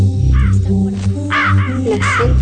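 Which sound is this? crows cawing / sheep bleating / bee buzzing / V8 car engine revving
crows cawing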